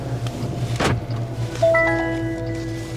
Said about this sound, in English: Doors are closing.